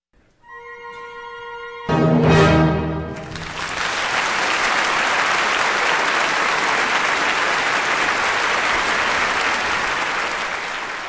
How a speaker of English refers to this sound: Applause for the Vienna Philharmonic and conductor Zubin Mehta, and music by Johann Strauss Jr., the Danube Maiden Waltz on Kansas Public Radio.